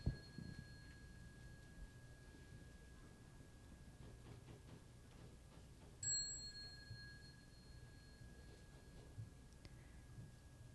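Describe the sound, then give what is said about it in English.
A ritual bell is struck once partway through, as the second bell of a Buddhist bowing ceremony, its bright tone ringing out and slowly fading over several seconds, while a softer lingering ring and faint murmur sit in the background. “Second bell.”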